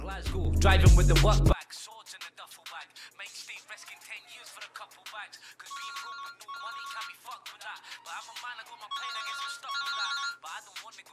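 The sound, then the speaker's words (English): A brief loud blast of music cuts off abruptly, then after a quiet stretch a mobile phone ringtone chirps in two repeating bursts of bright electronic tones, fairly soft. A young man lying on his bed, listening to music through headphones, is getting a call. “He looks at his phone and hesitates.”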